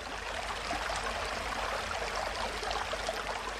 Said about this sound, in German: Auf dem Weg ins Tal stoße ich auf eine Quelle. In einer versteckten Bodensenke quillt helles, klares Wasser unter dem Laub hervor und wird dann zu einem kleinen Bach. Eben war noch alles still. Jetzt ist hier das sprudelnde Leben.